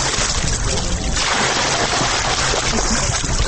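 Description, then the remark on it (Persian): Continuous splashing and sloshing of open water, a dense, steady wash of sound with no pauses, as many young people swim in the water of the Qargha reservoir in Kabul. “ما هم خواستیم سر به بند قرغه بزنیم که در اوج جوانان زیاد مشغول آبازی هستند.”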